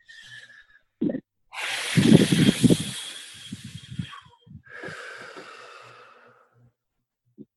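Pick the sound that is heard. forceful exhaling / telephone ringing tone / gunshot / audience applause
forceful exhaling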